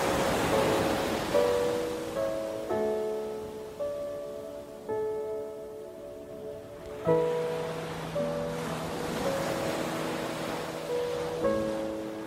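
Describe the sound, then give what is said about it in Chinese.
Gentle ocean waves wash in a steady, rolling hiss beneath soft, sustained musical tones, with the surf swelling and easing every few seconds. No one speaks. “着海浪的声音，想象你走在一片又细又软的白沙上，每一步踏在白沙上，就像踩在细滑的绸缎，慢慢朝海水走去”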